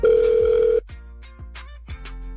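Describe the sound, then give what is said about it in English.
A phone line rings once with a loud, steady buzzing tone that lasts under a second, then stops and leaves quieter line hiss with faint tonal hum, on a call placed by the Hot 96.9 radio station. No one speaks. “Hopefully she answers and we get a chance to explain to her.”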